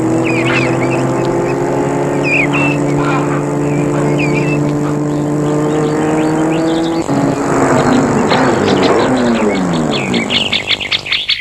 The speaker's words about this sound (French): La voiture s'est arrêtée devant le perron et le chauffeur ouvre la portière arrière pour faire sortir la mère et Pascal.